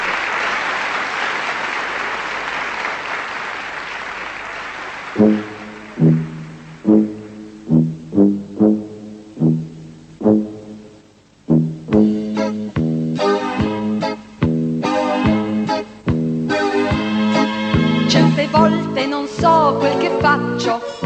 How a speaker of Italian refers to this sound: Ha una popolarità talmente grande che anche lei viene mandata al Festival di Sanremo. La sua canzone andrà in finale, è una canzone divertentissima,